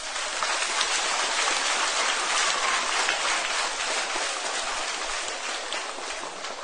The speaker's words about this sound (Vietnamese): Nếu tất cả chúng ta thấy rất rõ việc yêu dội, yêu cuồng dẫn đến nỗi khổ niềm đau và cần phải tránh và quyết tâm tránh được, thì hãy dành một tràng vỗ tay thật lớn.